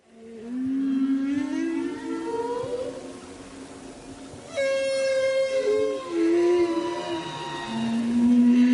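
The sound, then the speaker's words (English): Humpback whale calls drift in from a distance as the whales approach the Silver Bank, a large coral area off the coast of the Dominican Republic, recorded on board a boat: long, wavering tonal moans and rising cries, some with rich harmonic overtones, overlapping continuously over a faint underwater hiss. “This is a recording of humpback whales in the distance approaching the Silverbank, a large area of coral off the coast of the Dominican Republic, which I recorded whilst on board the Dardanella.”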